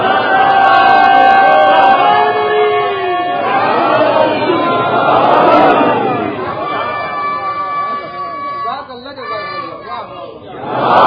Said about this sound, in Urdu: مگر اب دیکھیے یہ روایت اتنی مشہور, وہ تو آپ کا جذبہ ودا ہے کہ آپ نے اس پہ بھی نعرے لگائے